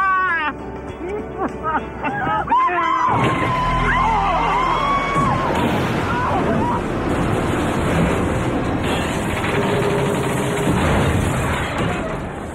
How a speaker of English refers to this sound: Kimberly is killed when their car plunges off a cliff.